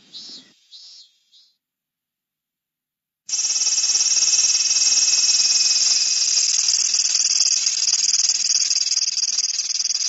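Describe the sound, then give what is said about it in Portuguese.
After a few brief chirps and a short silence, an Aburazemi cicada launches into a loud, unbroken, sizzling drone that sounds like an old running engine, steady until the end. “Já a Aburazemi produz um som contínuo, parecido com o funcionamento de um motor antigo.”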